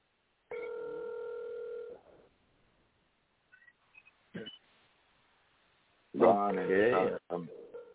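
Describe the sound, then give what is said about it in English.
A WhatsApp call ringing tone: one steady, buzzing burst lasting about a second and a half, then near-silence with a few faint clicks, and a voice talking briefly at the end. “But it's ringing, going.”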